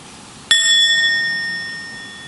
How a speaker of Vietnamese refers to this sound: khi nghe tiếng chuông mình không có nói chuyện, mình không có suy nghĩ, mình theo dõi hơi thở, mình lắng dịu thân tâm, mình để tiếng chuông đưa mình trở về với trái tim của mình.